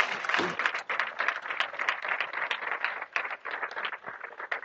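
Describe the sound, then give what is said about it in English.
An audience applauds together, a dense, steady wash of many hands clapping at once, loud and sustained for several seconds with small swells in intensity. “You can clap on that.”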